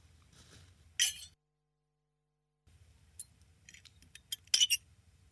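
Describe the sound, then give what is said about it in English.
Glasses clink together in a toast: one bright clink, a pause of silence, then a scatter of lighter chinks ending in a louder cluster, all over a faint low hum. “Shall I play mother? Well, isn't this just grand? Jim, Stanislaus, Cheers.”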